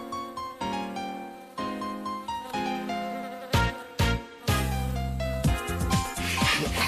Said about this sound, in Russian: Ах ты, вредная муха. А ну-ка сиди, сиди спокойно. Сейчас я тебя... Улетела. Ах ты, какая муха вредная. Опять промазал.